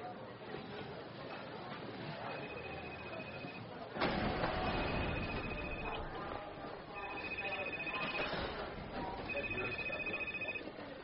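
A phone ringing tone repeats four times in steady, evenly spaced bursts while a call placed by the governor on a borrowed phone connects, heard over a muffled, rustling background with faint murmuring.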